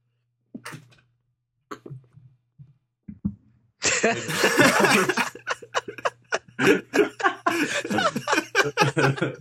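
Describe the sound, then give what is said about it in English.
A few small, muffled bursts of a stifled sneeze, then a sudden loud breathy outburst followed by a rapid, rhythmic run of laughter-like pulses that continues to the end. “you were trying hard to stop that sneeze, wasn't you?”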